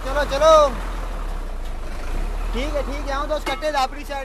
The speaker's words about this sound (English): They pull out of the truck stop and take off.